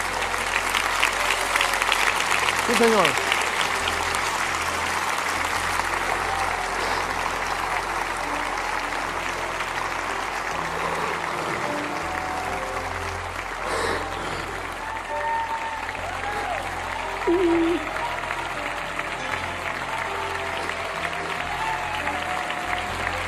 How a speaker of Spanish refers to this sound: Aplaudan a las personas que están llegando, porque están llegando más.